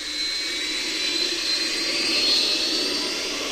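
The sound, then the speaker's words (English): A steady, loud engine roar with a high whine on top from a spaceship in a video game flying on autopilot at an engine speed of 6,000 km/s, holding constant without pauses and with no voices. “Can you hear me moving?”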